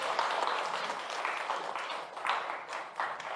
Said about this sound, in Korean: 오늘 설법을 해주신 강영 스님께 감사의 큰 박수 부탁드립니다.